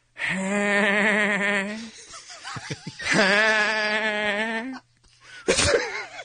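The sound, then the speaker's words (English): A voice imitates a goat in a cartoonish way, as the cartoon character Peter Griffin: two long, loud, quavering bleats separated by short choppy sounds, then a brief snickering burst at the end. “Wait, are we doing celebrity goats?”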